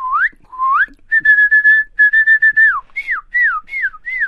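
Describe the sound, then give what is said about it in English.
A person whistles an imitation of a cardinal's call: clear, loud rising slurs, then a quick run of repeated steady notes, then several downward-swooping phrases, with no talking. “I can do a pretty good cardinal.”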